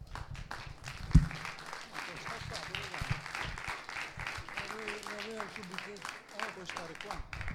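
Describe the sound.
An audience applauds steadily for several seconds, a dense, crackling wash of many hands clapping at once, with voices and a few shouts mixed in partway through.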